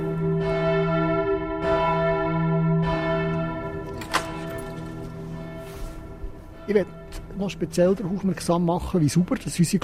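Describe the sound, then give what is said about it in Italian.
The large bells of the Bern Minster in Bern, Switzerland, ring out with several heavy, resonant strikes whose deep humming tones linger and overlap, then fade as a person begins speaking. “Infine vorrei ancora far notare come siano pulite le campane del Münster di Berna.”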